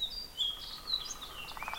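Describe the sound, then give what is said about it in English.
A fox sparrow's whistled song rings out, a run of clear, bright notes sliding up and down, with other faint chirps and a soft outdoor hiss behind. “But that dee dee dee dee dee dee dee, that's a fox sparrow. It's kind of a whistle song.”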